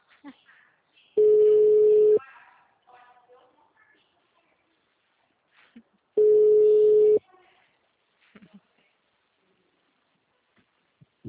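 A telephone ringback tone: two loud, steady, mid-pitched beeps about a second long each, separated by a few seconds of near-silence with faint, brief rustles and murmurs.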